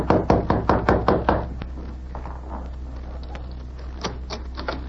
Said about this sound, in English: When he saw a light appear in the window of the editor's room, he entered the building and went directly to room number 4. He knocked on the door.